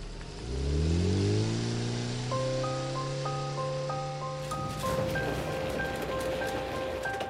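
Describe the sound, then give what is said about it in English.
A small car engine revs up and accelerates away, disappearing into the distance, its pitch climbing through the gears, while steady rain patters and hisses throughout. No one speaks. “I sat there looking out onto the falling rain as a small car disappeared into the distance.”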